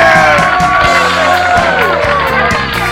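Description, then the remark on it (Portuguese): A loud crowd applauds and cheers during a recording of the programme Mais um Dia de Bobeira on Rádio Clube Jovem on 9 April 2021, with whoops and shouts rising over steady clapping that carries a rough rhythmic pulse throughout. “Cadê a palmas? Palmas, palmas, palmas.”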